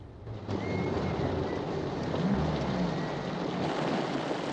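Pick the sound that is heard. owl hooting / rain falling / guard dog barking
rain falling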